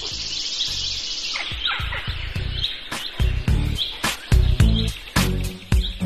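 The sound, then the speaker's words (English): Several male birds sing and chirp at once in a busy dawn chorus at a cemetery as it gets light, with bright overlapping trills and tweets, joined by intermittent low thumps and rustles. “the dawn chorus, when one by one, male birds begin singing as it gets light, to attract females and mark their territory, in what is probably nature's sweetest symphony.”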